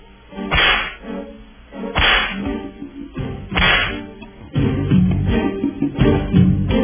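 Three sharp, loud whip cracks snap out about a second and a half apart, each a quick lash with a brief tail, before a denser, steadier stretch of sound takes over.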